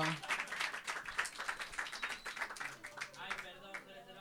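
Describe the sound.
An audience applauds a performer before a poetry reading, with dense, rapid clapping that stays fairly even for about four seconds, then thins out toward the end, with a few voices mixed into the crowd noise.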